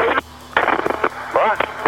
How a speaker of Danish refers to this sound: Det er meget dårlig forbindelse.